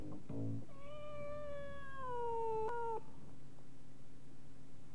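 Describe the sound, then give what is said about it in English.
A cat lets out one long, drawn-out meow lasting a couple of seconds, loud, its pitch sagging then cutting off abruptly, over a faint steady background hum. “Don't forget to put the cat out”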